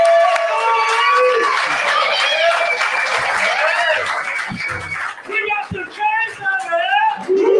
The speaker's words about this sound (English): Cam Ward, man, awesome talking to him right now as we got the crowd getting fired up here at Titanic.